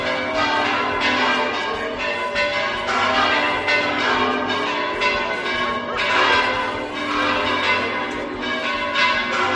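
The bells of the Real Monasterio at Las Huelgas peal continuously after mass on the day of the Curpillos festival, a dense, overlapping ringing, loud and reverberant, with strikes tumbling over one another throughout without pause.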